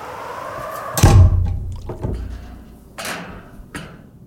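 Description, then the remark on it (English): The hatch door of a small submarine named Atlantis, placed in a small break in the ice, slams shut with one heavy, booming thunk, followed by three lighter knocks spaced about a second apart as it settles. No one speaks. “Let me just climb in, close up the hatch door.”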